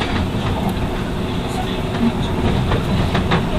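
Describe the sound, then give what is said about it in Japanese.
The temporary rapid train Moonlight Shinshu No. 81 running on rails, with Tachikawa as its next stop: a steady, loud low rumble with a broad roar on top, broken by a few soft clicks and knocks, continuing without pause for the whole stretch. “本日は臨時の快速ムーンライト新州81号ご利用くださいましてありがとうございます。”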